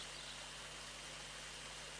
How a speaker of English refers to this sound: On my right side, there is a picturesque valley which is very natural and a kind of untouched. In the middle of the valley flows a roaring creek. Do you hear the sound?